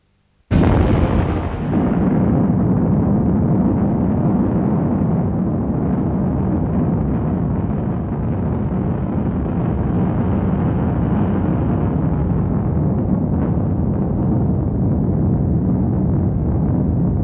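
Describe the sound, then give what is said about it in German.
A sudden deep boom from a distant explosion, followed by a long, heavy rumble that rolls on steadily for many seconds with no voices. “Er fragte sich, ob man die Explosion bis hierher hören würde.”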